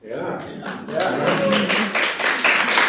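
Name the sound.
audience cheering and clapping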